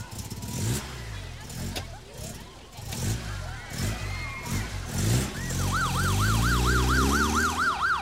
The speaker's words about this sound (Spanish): Aléjense, por favor. A un lado, dejen pasar la ambulancia.